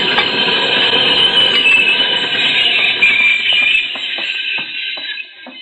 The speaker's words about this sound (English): Mighty nice work, Cisco. But look, great thunder, look. That express stopped not more than 10 feet away.